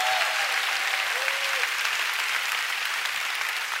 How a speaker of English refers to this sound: Come on, give God a good hand clap offering.